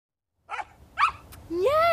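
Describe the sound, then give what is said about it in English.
A puppy gives two short, sharp yaps about half a second apart, then lets out a longer, rising whining bark, fairly loud against a quiet background. “That puppy gets spoiled something rotten.”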